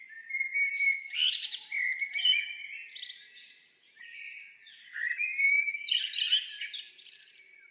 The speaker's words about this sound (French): Le gazouillis des oiseaux.